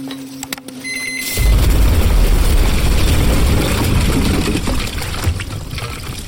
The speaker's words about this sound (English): The blast was tremendous in the confined concrete box. The thump of the charges going off was felt in our chests more than heard through our heavy ear protection. The door had been sheared in two, the greater part of it blown violently into the room